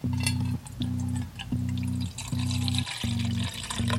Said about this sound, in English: Water. I'm just gonna pour some in a bowl.